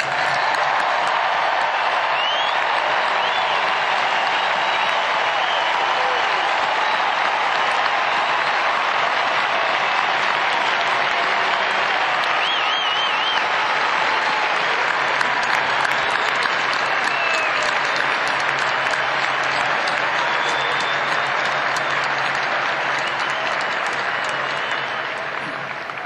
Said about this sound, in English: And I ask all of us here to give those fantastic blue-clad creatures, let's give them a really rousing applause.